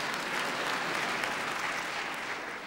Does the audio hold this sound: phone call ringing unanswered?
no